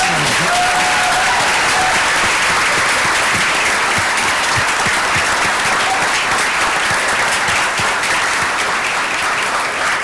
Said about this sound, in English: I want everyone to give yourselves a huge round of applause.